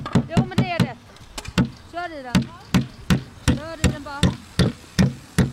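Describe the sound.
A hammer pounds a nail with a dozen or so sharp, close-up strikes at an uneven, steady pace, while people talk over the blows.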